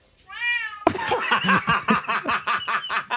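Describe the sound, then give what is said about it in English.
A cat gives a single drawn-out, wavering meow, meowing along to a song. Loud, choppy rhythmic bursts follow right after, filling the rest of the moment. “Get that cat on a talent show.”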